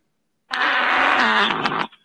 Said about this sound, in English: there's a Fart Wars fart pack in here, including Fubaka. Here, let me play this for everybody.